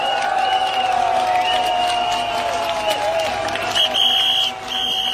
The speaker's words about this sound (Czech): Pořádný potlesk ještě jednou.